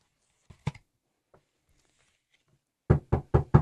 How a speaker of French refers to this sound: Ça fait déjà deux fois que Louis frappe, mais personne ne lui répond. Tout doucement, il entrebâille la porte.